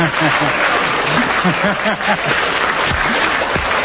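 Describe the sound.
A live audience applauds a remark by Kenneth Williams steadily and loudly throughout, a dense wash of clapping hands, with a few voices or whoops rising briefly above the noise.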